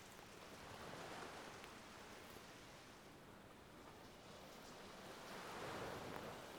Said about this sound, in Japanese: 穏やかだった雨はいつの間にか海の波を叩き上げるほど風に吹きつけられて勢いを増しています。